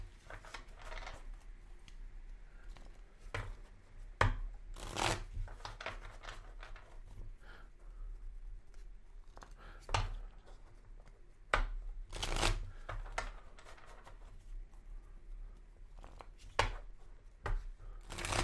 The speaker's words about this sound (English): Shuffle, and we're picking the card from Moriana, and it is the disempowerment isolation card.